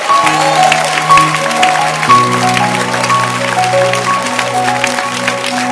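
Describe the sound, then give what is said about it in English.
A church audience claps loudly in appreciation of their pastor, a bishop, a dense crackle of claps filling the whole stretch with sustained keyboard chords ringing underneath and shifting pitch partway through. “Let your hand clap be loud.”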